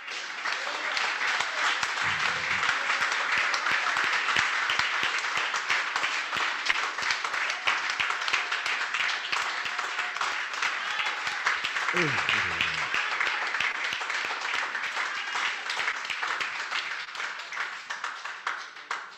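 A church audience bursts into sustained, dense applause, acclaiming God in worship, a steady wash of many hands clapping with scattered cheers and shouts of acclaim rising through it for nearly twenty seconds.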